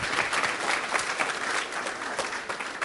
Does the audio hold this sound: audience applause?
yes